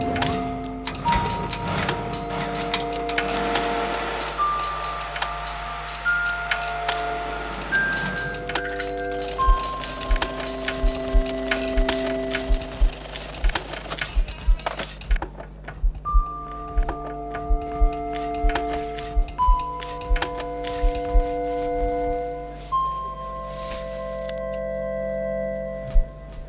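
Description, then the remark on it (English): The soundtrack of a stop-frame animation of garments: machine whirs, clicking buttons and zipping garment zips are layered into a rhythmic, almost musical pattern of sharp ticks and clinks over sustained mechanical tones, with no voices. “And then if you listen carefully and I shut up, all the noises are of the machines and the buttons and the zips of the garments.”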